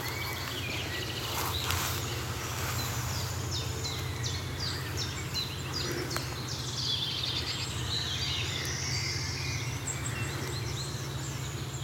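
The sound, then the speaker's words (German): Five wild boar piglets squeak in short, high-pitched bursts as they come toward the recordist, in quick irregular bursts over a steady low rumble. Faint birdsong sounds in the background, including a wood warbler, scolding tits and a chaffinch. “Oh, jetzt kamen hier gerade 5 Frischlinge auf mich zu.”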